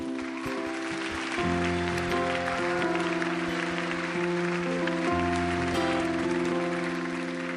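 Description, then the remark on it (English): Steady, dense audience applause continues for several seconds, mixed with sustained organ-like chords that shift partway through; no one speaks. “And I think God took special note of that, and to the extent that that represents the leadership of the church, I think we should applaud both him and the Lord for that great mercy.”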